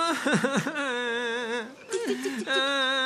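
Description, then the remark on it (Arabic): A boy cries and whimpers in long, wavering wails, with a brief choked break midway before the sobbing resumes loudly. “البكاء لا ينفع يا ولدي.”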